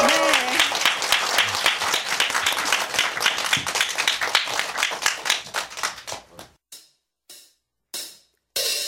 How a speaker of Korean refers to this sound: 박수 주세요.